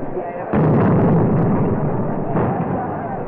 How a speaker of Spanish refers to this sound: En este momento se ha rociado de gasolina el gigantesco caballo y se elevan ya las primeras llamaradas, mientras la impresionante artillería de los miles de tracas, bengalas de colores, cohetes y castillos artificiales empieza a resonar.